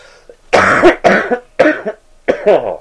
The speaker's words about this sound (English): Oh, God, I've been sick all week, and now I'm going to have a coughing fit.